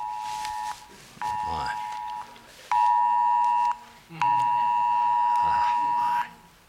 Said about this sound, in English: You got an emergency alert here. Let's turn that off. I apologize for that.